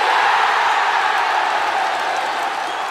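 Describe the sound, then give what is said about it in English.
Recorded crowd noise played as an effect on a show, a steady wash of clapping and cheering blended into a dense, even roar that holds at a constant level for the whole stretch, with no one speaking over it. “somebody involved has brought crowd noise with them. It's still going as well.”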